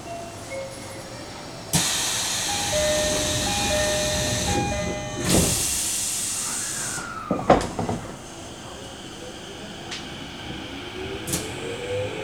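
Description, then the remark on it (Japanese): Train doors close at platform 2 of a JR East station: a pneumatic hiss, then a few solid thumps as the doors shut, over steady train hum and faint high chime tones. The train is a local running through onto the Tozai subway line to Nishi-Funabashi, next stop Kichijoji. “2番線ドアが閉まります。ご注意ください。”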